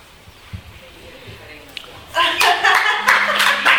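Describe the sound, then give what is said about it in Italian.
A burst of audience applause breaks out after a quiet, murmuring stretch, dense and loud clapping continuing steadily to the end. “Oltre all'applauso, vuole dire qualcosa?”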